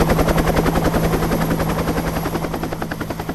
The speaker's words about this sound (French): et avant qu'elle ne se fasse à nouveau enlever par un hélicoptère. Oui, je sais, c'est incroyable, un hélicoptère.